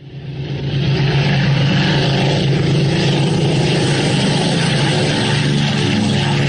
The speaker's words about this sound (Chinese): 战车方队还没有完全驶过天安门，在天安门广场上空，由17架飞机组成的编队呈品字队形，以不到1000米的高度飞过来了。其中有4架由于担负着战斗警戒任务，受阅时还挂着实弹。